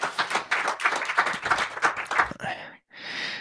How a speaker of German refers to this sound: Kleinen Applaus, der nächste Gast kommt auf die Bühne.